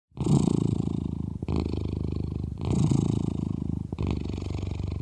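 A domestic cat purrs steadily, a low rough rumble that swells and dips in four long cycles as the animal breathes in and out, with no other sounds around it.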